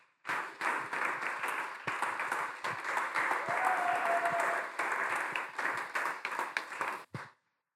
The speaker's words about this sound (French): C'est pour cela que, sous nos applaudissements pour la gloire des dieux, nous sommes en train d'accueillir le serviteur des dieux.